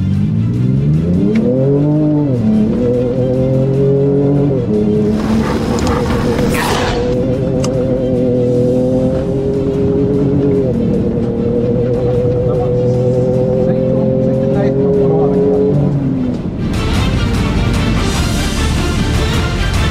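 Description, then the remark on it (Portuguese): A Raptor's engine revs loudly as the vehicle drives off-road, its pitch climbing and dropping repeatedly in a steady, continuous drone with a brief burst of higher roar near the middle. “Vamos agora lá pro off-road?”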